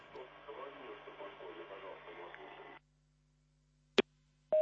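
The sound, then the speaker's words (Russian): A crackly, muffled phone line from a caller to a Radio Svoboda phone-in programme hisses, then cuts to silence as the call drops, followed by short electronic beeps of a busy tone, one brief pulse and the start of another. “Так, сорвался телефон.”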